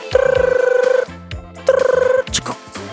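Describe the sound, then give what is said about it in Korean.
A telephone rings twice with a rapid, trilling electronic warble, clear, the second ring cut short and followed by a few brief clicks, as a phone call is connected. “네, 전화 연결해 볼게요.”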